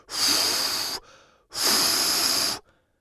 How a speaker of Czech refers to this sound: Vylétli z bubliny a hluboko se nadechli. Ah, to je vůně.